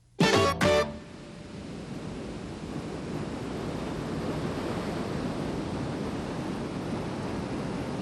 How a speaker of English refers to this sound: This is one of my favorite places on Earth. In fact, I used to live at the ocean. I used to love the way the pounding surf would lull me to sleep at night. Just listen.